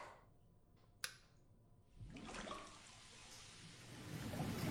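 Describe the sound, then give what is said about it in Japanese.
After a soft click, warm carbonated water begins gushing from a shoulder-height spout of a bath unit, with a fizzy, hissing rush, steady, swelling a little louder toward the end. No voices. “肩湯っていうのかな。温泉みたいだね。あ、出てくるお湯、炭酸水にもできるんだ。”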